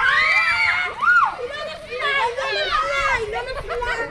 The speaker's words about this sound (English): Girls screech beneath a tightrope strung between two trees.